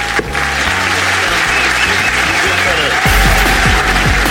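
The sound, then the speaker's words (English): A large audience at the Leicester Square Theatre bursts into sustained, loud applause for Shappy Kosandy, a dense wash of clapping that swells louder toward the end, with cheering voices mixed in underneath. “Will you please give a massive round of applause to Shappy Kosandy, ladies and gentlemen?”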